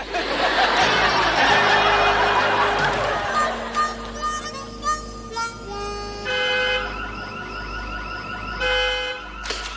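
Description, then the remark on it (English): A car alarm blares, cycling through shifting electronic siren tones and steady warbles, loud throughout, with some faint laughter mixed in early on. “Maybe you should get a car alarm.”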